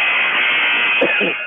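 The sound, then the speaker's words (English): A loud arena buzzer blares in one long, steady, harsh tone, the second buzzer calling the teams back in from a timeout in a Sandpoint versus Lumen Christi game, with a voice briefly speaking over it near the end. “Second buzzer calling back.”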